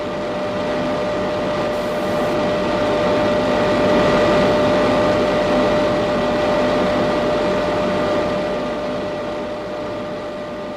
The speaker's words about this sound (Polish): Oddział trzeci. Sprężarki.